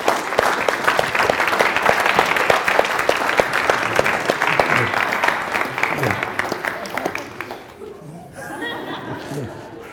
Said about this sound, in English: What we're doing today is how we have our people who have met Jesus, and we're going to meet someone new, and I want you to give a big round of applause as he comes through the door. Let's welcome our special guest today.